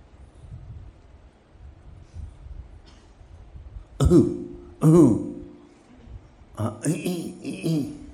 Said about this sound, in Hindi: फिर खांसना वास्ता बंद कर, नहीं तो मैं भी खांसना शुरू कर दूँगा।